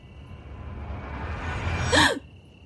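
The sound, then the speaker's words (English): A single sharp gasp of indrawn breath as someone wakes in bed in the dark, rising out of a soft breathy hiss and cutting off abruptly, with no talking around it. “I gasped awake to a dark, shadowy figure looming over me.”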